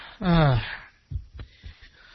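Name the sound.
cough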